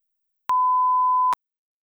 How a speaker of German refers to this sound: Sie können uns aber nach dem Signalton eine Nachricht hinterlassen und Ihre Telefonnummer angeben. Wir rufen dann gern zurück an.